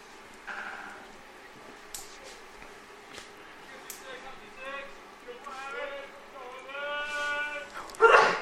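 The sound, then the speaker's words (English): A single sudden sneeze bursts out loud at the very end, following several seconds of wavering, bleat-like tonal sounds over a low background murmur. “Bless you.”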